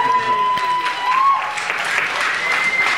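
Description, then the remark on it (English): A crowd at the Spirit of Woodstock Festival in 2012, its 20th birthday, claps and cheers, a dense wash of steady applause mixed with shouting voices and a sustained whistle-like tone, loud and continuous throughout. “Yes, you can shout and clap hands.”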